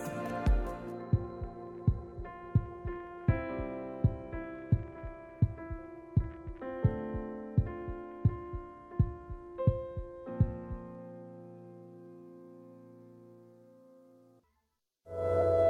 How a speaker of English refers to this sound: Our voice comes from the heart of beautiful Iran. This is the Heart of Life Pounding. IRIB English Radio.